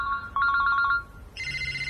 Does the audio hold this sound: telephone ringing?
yes